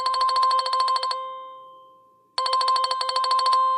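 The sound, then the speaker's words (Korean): A mobile phone rings for an incoming call with a bright, rapidly trilling electronic tone in two bursts, about a second each, separated by a pause. It's loud, with no voices. “하여튼 조금만 안 보이면 곧바로 전화 온다니까.”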